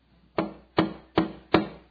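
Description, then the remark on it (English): Four firm knocks on a wooden door, evenly spaced and steady, with nothing else in the background. “Oh, somebody's at the door.”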